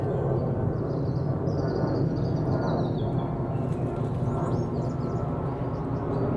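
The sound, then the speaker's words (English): A steady, heavy roar of an aeroplane passing overhead fills the whole stretch, broad and rumbling, while small birds chirp faintly in the background. “Farewell, people in big metal bird. Wherever you're going, safe journey.”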